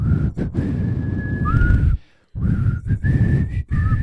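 Someone whistles a slow, sustained rock ballad melody, the tones held long and gliding between notes over breathy background noise, with a brief pause partway through.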